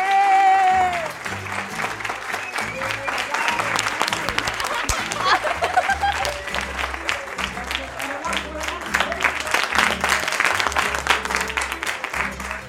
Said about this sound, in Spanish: Oye, un aplauso grande para ustedes.